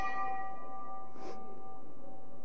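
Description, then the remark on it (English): A clock's bell chime rings out with a bright, sustained metallic tone that slowly fades, with a brief soft rustle partway through. No one speaks. “Oh, the bell is ringing again. Damn clock.”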